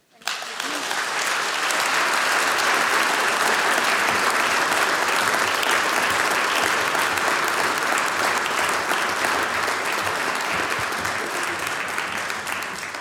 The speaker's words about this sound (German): Aber ihr habt euch jetzt dann die Pause wirklich redlich verdient und der nächste Applaus gehört euch.